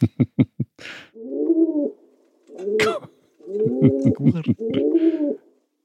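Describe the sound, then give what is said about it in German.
Rock dove (city pigeon) cooing: several low, throaty rolling coos in a rhythmic series, preceded by a few sharp clicks or wing-claps, fairly loud in a boxy, tinny, echoing space. “Und ja, du hast es ja eigentlich schon verraten, es ist die Felsentaube. Beziehungsweise die Stadttaube.”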